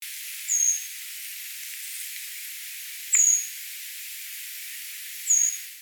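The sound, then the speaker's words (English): Three thin, very high-pitched bird communication calls given back and forth while feeding, each a brief whistled note, spaced a couple of seconds apart over a steady background hiss, with no voices. “They will give high-pitched communication calls back and forth while feeding.”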